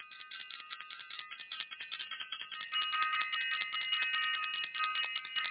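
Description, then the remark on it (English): A bell is rung for the Self-Invested workshop and Self-Invested University, ringing continuously for about five seconds, a bright, high, metallic jangle with a rapid rattling pulse, growing louder partway through. No one speaks. “And also, I want to ring the bell.”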